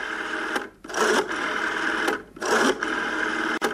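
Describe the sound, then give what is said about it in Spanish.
A rotary telephone dial is wound and released a few times; each return gives a steady, buzzing mechanical whir of rapid clicks, set apart by sharp snaps. Fairly loud, with no voices. “Y luego esta ruedecita que la marcaba cada nube. Así, raya, hacia. Taca, taca, taca.”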